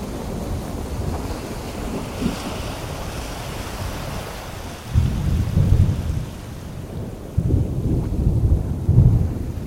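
A raging storm on the open sea at night, waves tossing a ship: steady rain and surging waves roar throughout, with deep rumbling thunder swelling in heavy bursts in the second half. No voices.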